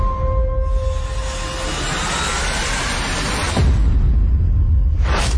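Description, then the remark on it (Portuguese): A thin, steady whining buzz like a mosquito's wings, with a faint tone that slowly rises in pitch over a loud rushing, engine-like noise, and no voices. “É o mosquito.”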